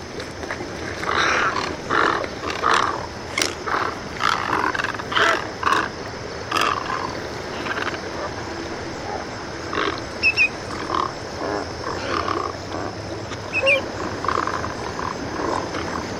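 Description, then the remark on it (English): Harsh, rasping angry calls of big birds going beak to beak at a glacial pond on the Connecticut shore burst out again and again at an uneven pace, loud and strangled-sounding, with grunting croaks between them and no voices. “The angry calls sound like someone's getting strangled.”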